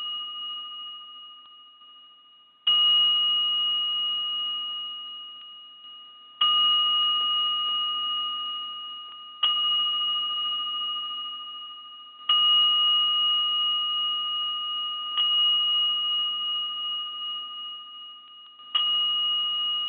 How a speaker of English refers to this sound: Just take a moment to ground into ourselves and settle down into the sounds of the bell and just allowing Mother Earth energy to come into the call right now. And I'm just going to ring the bell for just a moment here.